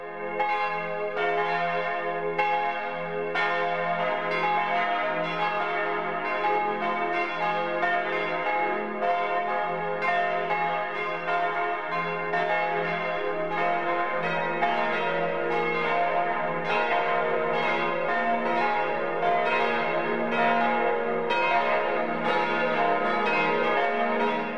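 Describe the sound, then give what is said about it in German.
Church bells of the Church of St. Anthony and the Friedenskirche in Bad Wiessee, Upper Bavaria, ring out a steady 12 o'clock midday peal, several bells overlapping in a continuous rich clang, with a deeper bell joining partway through, loud and sustained with no voices. “Das Mittagsläuten kommt heute aus Bad Wiessee in Oberbayern.”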